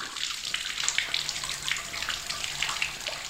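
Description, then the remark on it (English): Water runs steadily from a tap, a continuous splashing hiss with small bubbling flickers, holding at an even level for a few seconds with no voices. “Most of us take access to running water for granted.”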